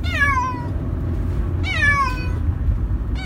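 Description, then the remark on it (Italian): A cat with conjunctivitis, shut in a pet carrier to be taken to a vet in Reggio Emilia, meows twice in drawn-out, falling cries, with the start of a third at the very end, over a steady low rumbling background noise. No one speaks. “uno dei miei due gatti, era congiuntivite, quindi l'ho messo nel trasportino per portarlo dal veterinario.”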